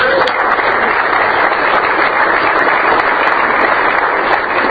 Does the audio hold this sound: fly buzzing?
no